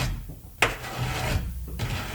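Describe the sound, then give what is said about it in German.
Rough scratching on the outside of a girl's wooden bedroom door at night, coming in two drawn-out rasping bursts with a sharp knock-like scrape between them, moderately loud, with no voices. “Ein Kratzen an ihrer Tür.”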